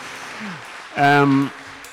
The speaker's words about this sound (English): The applause weren't quite as good as that was, but the heart was there.